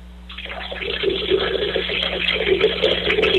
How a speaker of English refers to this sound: You hear that, man? I'm peeing in your voicemail. I am peeing in your voicemail. Oh, man, I think my flow is getting low. This isn't as impressive as I would have hoped. Oh, I'm still going.